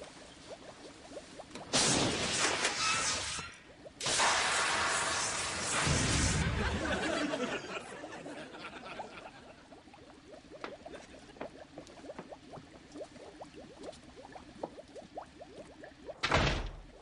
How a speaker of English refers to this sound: didn't your mom ever teach you not to slam doors?